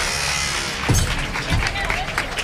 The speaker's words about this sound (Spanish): Es de la puerta de la Capilla de la Estrella.